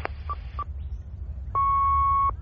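The answering machine beep tone of the Fur and Feathers Veterinary Surgery: two quick electronic blips followed by a single steady, high-pitched beep held for nearly a second, clear and moderately loud over a low background hum.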